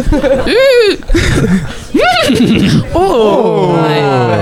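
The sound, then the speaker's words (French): A person with a hoarse voice imitates a horse whinny, with several rising and falling squealing bursts in quick succession, loud, ending in a long wavering neigh. “Ok, moi c'est un peu technique parce que j'ai la voix cassée, donc c'est vraiment un cheval qui fume pas des garrots.”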